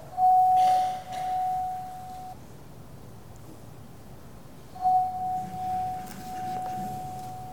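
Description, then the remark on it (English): A small bell rings twice to begin and end a time of silence in a worship service, each strike leaving a clear, sustained tone that slowly fades, with a few seconds of near-silence between the two rings. “Let us now go to God in a time of silence, beginning and ending with the bell.”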